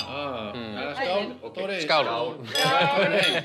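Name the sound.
glasses clinking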